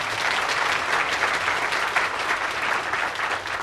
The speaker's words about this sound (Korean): 박수 한번 쳐주십시오.